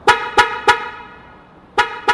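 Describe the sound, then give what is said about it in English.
A rear-seat reminder alert on a parked 2019 Nissan car beeps in short, sharp honks: three quick toots in a row, a pause, then two more, loud with no voices. “It would just beep like that.”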